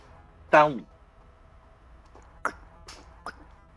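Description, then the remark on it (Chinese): A single short, loud burp after gulping bottled Glacier Age water from the Blue Sword Group, voiced with a falling pitch, followed by a few soft, sharp clicks spaced over the next second or so, with no talking. “哦，喝了我都打嗝了”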